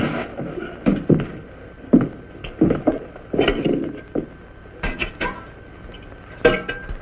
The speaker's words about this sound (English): Have a drink of water, Judge.